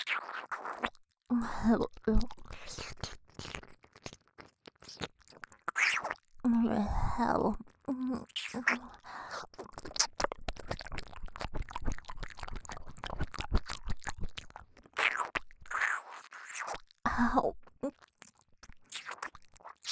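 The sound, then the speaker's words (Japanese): Wet mouth noises with repeated gulping swallows of saliva, mixed with clicky smacking and a few short, low vocal groans scattered throughout; no clear words are spoken. “唾液をごくごく飲むのがそんなに興奮するのか。”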